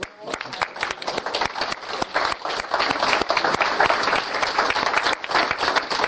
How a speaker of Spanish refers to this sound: Hay muchos nuevos padres. ¿Cuántos nuevos aquí? Un aplauso para ellos.